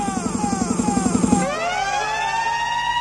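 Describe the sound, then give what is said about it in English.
A loud synthetic siren effect: a pulsing, beat-driven buzz gives way to sweeping, rising wails that glide upward and hold, prominent with no voices. “As we make the siren. Where's the jump up Massive siren?”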